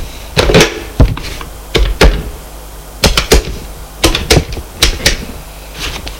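dialing a telephone number

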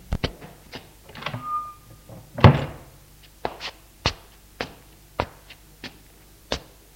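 door opening

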